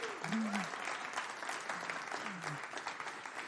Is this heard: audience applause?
yes